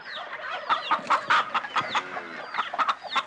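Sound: chicken clucking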